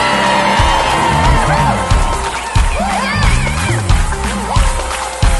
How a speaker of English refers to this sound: That's why he said, and shout unto God with the voice of triumph. Somebody shout.